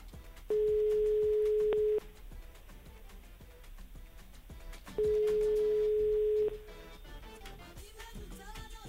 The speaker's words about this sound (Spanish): Está sonando el teléfono, me dicen.